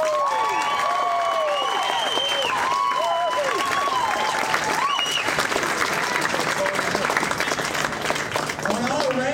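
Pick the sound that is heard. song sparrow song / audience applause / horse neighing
audience applause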